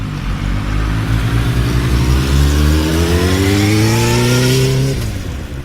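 A motorcycle engine revs loud, its whine climbing steadily in pitch for several seconds before dropping off abruptly as the throttle is released. No voices.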